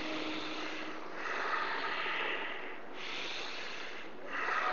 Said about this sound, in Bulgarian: А сега забави леко дишането. Нормално дишане, дълбоко нормално дишане, без никакъв звук. Още няколко дълбоки вдишвания и издишвания без звук или с много лек звук.